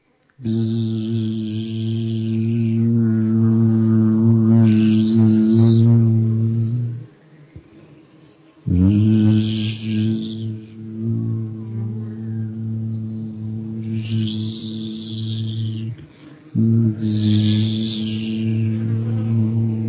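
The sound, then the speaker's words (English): A human voice hums a steady, loud buzz imitating bees, sustained in long tones with two brief pauses for breath, alone without words. “There's some people, I know this one woman who's a drummer who actually feels that when you tone the sound of the bees, when you buzz, it's really good for you. If you like, do a buzzing sound now.”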